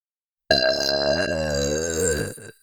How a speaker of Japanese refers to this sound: 感謝ゲップお耳までお届けしますね。いきます。